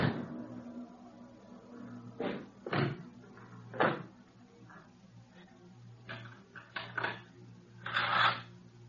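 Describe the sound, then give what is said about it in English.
A locked door is rattled and pounded in uneven bursts by someone trying to get in, several heavy thuds and jolts spaced irregularly, loud over a low steady hum. “This door's locked. Who's in there? Open this door. Open up.”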